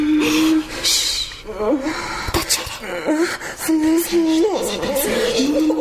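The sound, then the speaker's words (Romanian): A woman whimpers and cries softly in her sleep while dreaming, with wavering, moaning sobs broken by shaky gasping breaths, fairly steady throughout. “Plânge în somn.”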